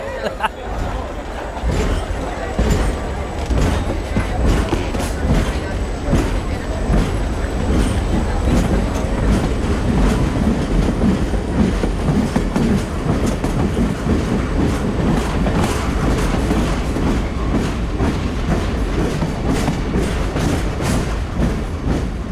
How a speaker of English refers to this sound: The train trundled along. The whistle blew when we went through the tunnel.